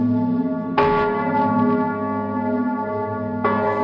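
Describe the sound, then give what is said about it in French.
Church bells of the village of Uruf, 40 km southwest of Nancy, ring out loudly at night in December 1956, the parish priest pulling the rope inside the church; two fresh strikes about three seconds apart, each leaving a rich, sustained hum of overtones that lingers between them. No voices. “Dans ce village, cette nuit-là, les cloches sonnent.”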